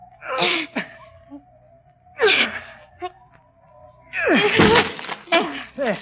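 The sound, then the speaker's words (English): A door is forced and broken down by two people pushing together: two heavy slams with straining grunts, then a louder, longer crash as it gives way, over a faint steady tone. “can't you break the door down?”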